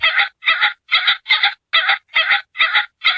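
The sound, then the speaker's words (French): A pheasant calls to announce that it is landing, in a steady series of eight harsh, raspy bursts, evenly spaced about twice per second, loud and alone with no talking. “Alors, Anto, est-ce que c'est une grenouille qui pond des œufs ou est-ce que c'est un faisan qui prévient quand il atterrit?”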